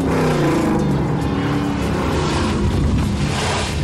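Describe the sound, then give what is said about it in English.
A car engine roars loudly for a few seconds, a steady revving rumble with tire and road noise, as a woman who has been driving backwards fast spins the car around, raising dust. No one speaks. “She's really driving the car and like spins it around.”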